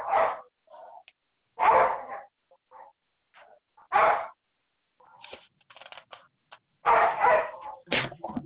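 Dogs bark in sharp, loud bursts about every couple of seconds, with softer yips and whines between them, sounding close but thin, as if heard down a phone line.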